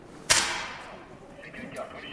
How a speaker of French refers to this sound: Une carabine. Alors là, ils sont en train de faire les essais son parce que la carabine, elle pète pas assez fort. Donc en gros, ils sont en train de voir comment ils peuvent augmenter le système